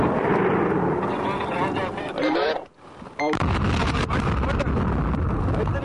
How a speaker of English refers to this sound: And it is connected to ammunition. These explosive devices are systematically planted. The Taliban have become expert in this kind of long-distance death. It's a big blast.